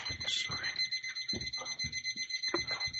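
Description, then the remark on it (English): A steady electronic alarm tone beeps continuously from a medical heart monitor, sustained and fairly loud, with low muffled talk and movement beneath it. “Yeah, that was that was the heart monitor on your patients, and I think that's bad.”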